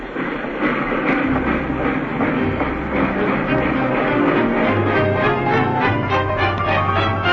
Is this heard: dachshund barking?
no